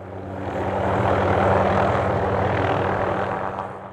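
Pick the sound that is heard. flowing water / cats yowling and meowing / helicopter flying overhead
helicopter flying overhead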